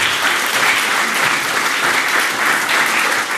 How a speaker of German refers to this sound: Ja, dann jetzt die Chaosvermittlung bitte. Applaus für die Chaosvermittlung.